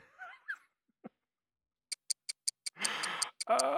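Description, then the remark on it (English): A short run of five or six crisp, evenly spaced, fairly loud clock ticks after a brief vocal sound, then cut off by bursts of rough rustling noise. “What's that ticking I hear?”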